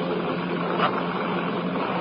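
A steady, unbroken droning of bomber airplane engines, either German Stukas or British Lancasters, headed this way, a dense rumbling hum that holds the same loudness throughout with only a brief swell partway through. No voices.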